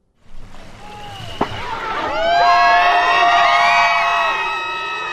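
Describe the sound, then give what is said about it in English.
A large outdoor crowd in a tiny coastal village on the Bering Sea, Alaska, cheers wildly on a summer Saturday while watching teams of men and women row giant handmade walrus skin boats across a protected bay. Voices rise into a sustained roar of shouts and whoops after about two seconds, with a sharp bang or clap early on. “joined a wild, cheering crowd to watch teams of men and women row giant handmade walrus skin boats across the flat water of a protected bay off the Bering Sea coast.”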